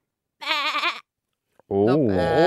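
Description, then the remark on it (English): A person does two wavering, bleating goat imitations: a short nasal bleat, a pause with a tiny click, then a longer, lower warbling bleat that rises and falls, fairly loud. “…, give us your goat noise in 3, 2, 1.”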